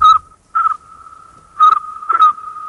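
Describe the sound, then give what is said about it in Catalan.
A man imitates a cricket with his mouth: a steady high whistled tone around one pitch, broken by four louder trilling chirps, with no talking over it. “segons tu, com sona un grill? Això ho està fent aquest senyor amb la seva boca, eh?”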